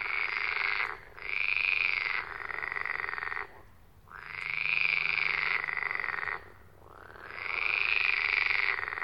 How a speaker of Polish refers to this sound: Na terenie Lipówki można jeszcze usłyszeć rechotanie żab wodnych